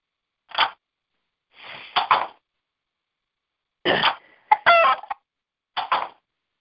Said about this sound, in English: Turn the volume up on this other phone. You can hear my roosters go off.